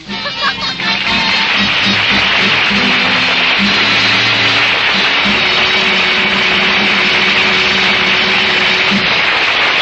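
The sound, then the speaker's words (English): A loud, steady outboard motor roars with a harsh whirring buzz and a low droning hum that shifts slightly in pitch, running continuously with no voices. “You can take along your outboard motor, too.”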